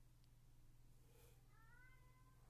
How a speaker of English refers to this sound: Wow! He's still meowing at my door.